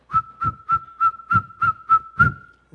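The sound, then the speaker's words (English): A shrill eagle bone whistle sounds in about eight quick, evenly spaced blasts over a sustained high tone, each blast landing with a low thump like a drumbeat. No one speaks. “Just on the other side of that hill, this small little mitigonabe, this small little lodge, little drum with some little boys sitting, girls on that side, boys on this side with their little eagle whistles.”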